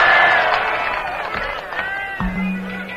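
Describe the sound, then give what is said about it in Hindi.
An audience applauds with cheering and crowd voices mixed in, loud at first and gradually easing off, while a steady low hum comes in near the end. “तो एक गीत मैं भी आपको सुना देता हूं सुना दो बजी ताली”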